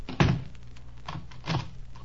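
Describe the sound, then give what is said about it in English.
A door shuts with a heavy thud, followed by two softer knocks or rattles about a second later as it settles or latches. No one speaks. “When you've had your little argument, the one who's left can knock on this door, and I'll come and unlock it.”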